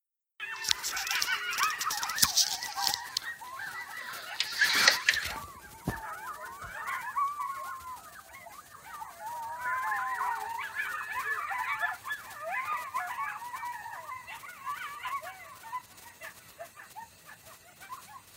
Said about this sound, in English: Oh my god. I don't think I've ever heard a coyote scream.